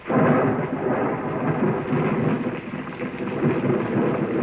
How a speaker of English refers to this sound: Oh, it's pouring here now.